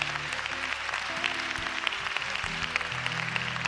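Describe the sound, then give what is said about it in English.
A crowd applauds steadily throughout, a dense crackling wash of many hands clapping at once, with low sustained keyboard-like tones humming underneath and no speech. “Behold, some of you didn't clap because you're nervous.”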